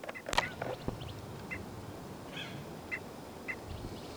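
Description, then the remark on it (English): Continuing alarm calls of a single bird (bird 318): a series of short, sharp calls repeating at irregular intervals over a steady outdoor background, with a louder burst near the start and fainter calls following. “That's continuing alarm calls of 318.”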